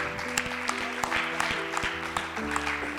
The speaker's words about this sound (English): Can we give God a hand clap of praises?